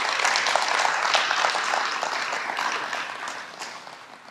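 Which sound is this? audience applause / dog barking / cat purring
audience applause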